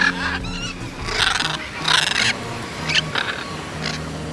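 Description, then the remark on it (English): Loud, harsh squawks from macaws of many varieties close by during a morning feeding session, several birds calling in overlapping bursts with short pauses between, no talking. “In here, there are many varieties of macaws, and I got to go up close during the morning feeding session.”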